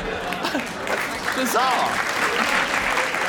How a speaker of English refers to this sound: Yes, you should applaud.